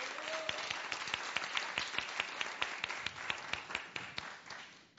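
An audience applauds steadily, with dense overlapping claps and a few sharp, distinct claps standing out in a loose rhythm. The applause stays fairly even, then thins and fades toward the end.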